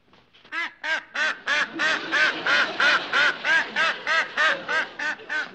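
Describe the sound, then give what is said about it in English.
A flock of ducks quacks loudly, a steady run of a dozen or so overlapping quacks in quick rhythm, with no one talking. “Some fella came over with a bunch of ducks”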